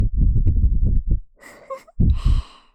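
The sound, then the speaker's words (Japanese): Soft breath blown into the ear: a rumbling, wind-like puff, then a pause, an airy hiss, and another breathy exhale. No one speaks. “ただ吐息をかけているだけなのにそんなにいやらしくなるなんて不思議。”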